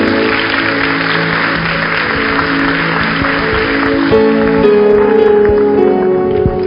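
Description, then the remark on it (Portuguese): An audience at a church service claps steadily and loudly as applause to the Lord after a prayer, a dense, continuous patter, while sustained keyboard-like musical tones hold underneath and grow clearer toward the end. “Uma salva de palmas ao Senhor.”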